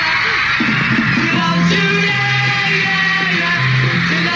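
A dense, continuous wall of high-pitched screaming from a huge crowd, loud and unbroken, with faint band music and steady bass notes buried underneath.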